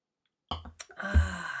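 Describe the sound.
A voice imitates drinks being clinked in a toast: two quick clicky taps followed by a bright, steady ringing tone that sustains at moderate loudness, with no speech.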